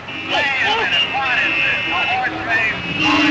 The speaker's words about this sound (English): They're coming up this time, almost in an even line. Several cars drive onto the racetrack.